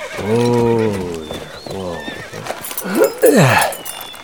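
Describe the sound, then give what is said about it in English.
A dun horse whinnies several times, with loud quavering neighs that rise and fall, ending in a shrill, swooping call, while hooves clop faintly in the background. “The dun had stopped pitching and stood looking back, trembling in the aftermath of panic.”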